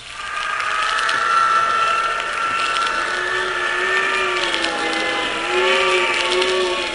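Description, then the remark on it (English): A wind tunnel blast buffeting a full-size plane during a test roars steadily and loudly, a broad rushing noise layered with droning, whining tones that slowly waver and shift in pitch, with no voices. “It's a full-size plane, and yet that wind is tossing it around like it was a cork almost.”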